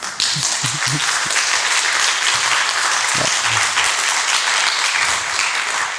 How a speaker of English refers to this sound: And thanks for your attention. Now you can clap.